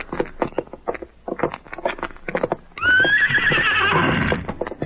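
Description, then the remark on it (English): A run of sharp, rhythmic hoof clip-clops for a few seconds, then a loud horse whinny with a high, wavering squeal that carries on to the end. “Let's get to our horses.”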